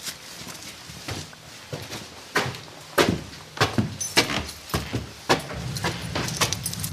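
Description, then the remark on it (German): A bunch of keys jingles and clinks in irregular bursts, with metallic rattles coming and going as the keys are shuffled through to find the right key to a large hall in a former abbey's residence, over a faint background hum and no talking. “Ich den richtigen Schlüssel finde.”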